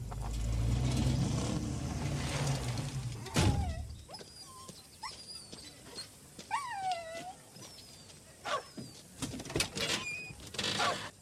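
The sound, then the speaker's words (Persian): A dog whines in several high, wavering whimpers spread over a few seconds, with occasional thumps and clatter, after a low engine-like rumble fades out at the start. “خیلی خوبه، برو دیوار بساز سگه به درد نخوره زرزرو.”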